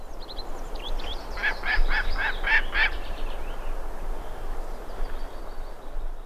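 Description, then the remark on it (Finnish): A gyrfalcon gives a quick run of about six harsh, raspy calls, clear, then falls silent while a steady outdoor hiss carries on to the end. “Ja tunturihaukan äänen siivittämänä kerrotaan”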